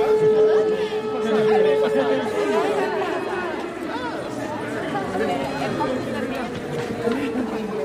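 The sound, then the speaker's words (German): A dense babble of many voices in friendly conversation, steady and fairly loud throughout, overlapping with no single voice standing out, from a relaxed audience gathered outdoors on a warm day to see the artwork Resurrection by Brazilian artist Clara Jani. “Und obwohl es ein schöner, warmer Tag ist und die Gespräche freundschaftlich verlaufen”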